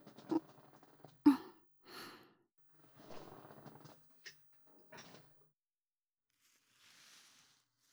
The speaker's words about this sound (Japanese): では、また椅子の背もたれ、倒させていただきますね。